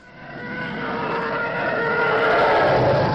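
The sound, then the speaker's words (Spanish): A sci-fi imperial starfighter screams overhead, a harsh roaring whine that swells steadily louder over a few seconds, with no voices. “Caza imperial pasando por encima de tu cabeza.”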